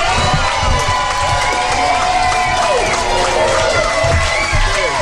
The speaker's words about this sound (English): Quite a good crowd. The lovely crowd. A big cheer.